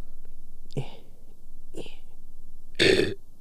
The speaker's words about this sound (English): Excuse me, burped.